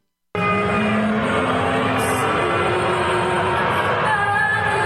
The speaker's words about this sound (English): Fans today booing the U.S. national anthem at the Toronto Raptors NBA game against the LA Clippers.